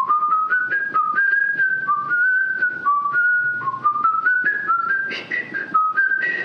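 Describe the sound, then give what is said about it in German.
A person whistles Edvard Grieg's In the Hall of the Mountain King alone, a clear bright tune of short stepping notes in a steady rhythm, fairly loud, rising in pitch toward the end. “Und ich glaube gar nicht, ich hatte es gar nicht so lange gepfiffen, wie ich jetzt gerade”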